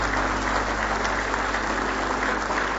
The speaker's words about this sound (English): Well, we got a good-looking choir up here, don't we? Praise the Lord. Give them one more hand clap, if you will, this morning.